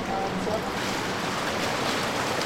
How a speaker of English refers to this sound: We're in the brick tunnel. It's about 6 foot high. Our heads are grazing the top of it. And below us is a foot of water, quite a strong flow. It's so warm because it's heated by people's bath water.